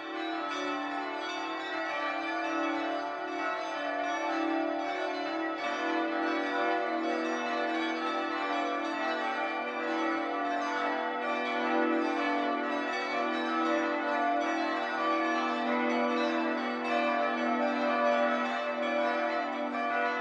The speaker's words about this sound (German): Es ist 12 Uhr. Das Mittagsläuten kommt heute aus St. Lorenz in Nürnberg.